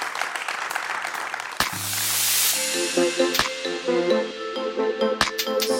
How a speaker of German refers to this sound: Ein Applaus für ihn. Dankeschön.